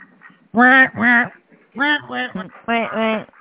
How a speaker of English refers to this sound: You've got ducks over there. Why is there ducks, man? That's just making a weird noise.